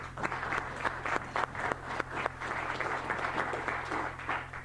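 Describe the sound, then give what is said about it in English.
An audience claps in a steady, continuous burst of applause welcoming a guest, staying fairly even for several seconds, with a faint low hum underneath and no voices. “But if you could help me in welcome her in the crowd.”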